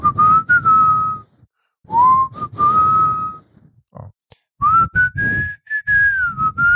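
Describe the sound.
A person whistles a slow, sustained melody in three clear phrases with brief pauses, the tone gliding smoothly between notes like a ballad tune.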